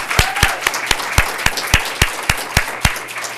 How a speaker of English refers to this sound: So I hope you'll join me for a round of applause for the entire Pathfinder staff and all they've done.